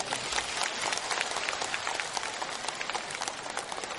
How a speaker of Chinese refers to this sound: 让我们用热烈的掌声感恩卢军宏台长为我们带来的精彩开示。